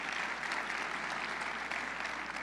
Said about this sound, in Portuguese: Então, mais uma vez, vai ter o prazer de te ouvir e eu queria que a gente recebesse ele com uma salva de palmas.